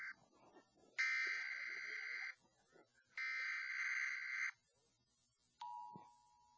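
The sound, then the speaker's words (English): An Emergency Broadcast System alert tone as heard on TV: two loud, harsh, buzzing tone blasts about a second long each, separated by a brief pause, then a steady, purer single tone begins and holds to the end. “You remember it was called the Emergency Broadcast System. In fact, after that annoying beep, after that annoying squeal”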